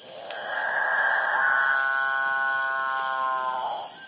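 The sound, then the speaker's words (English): Male capuchinbirds call in a dawn chorus in the Guyanan jungle: a long, eerie moaning drone that swells and holds for several seconds, rich in overtones, over a steady high-pitched insect hiss in the forest. “It's the dawn chorus of male capuchin birds, one of the most bizarre members of one of the most bizarre bird families in South America, the Catingas.”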